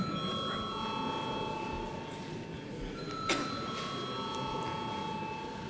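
parliament voting bell ringing

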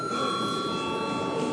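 parliament chamber bell ringing

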